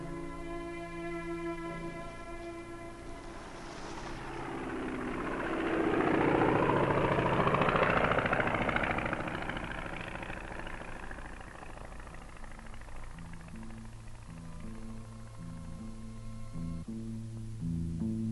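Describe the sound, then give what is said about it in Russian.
An army airplane's engine drones steadily, swelling louder and rougher as it passes overhead about midway through, dropping a message pennant, then easing back to a steady hum. No one speaks. “Самолет из армии вымпел, сбросил.”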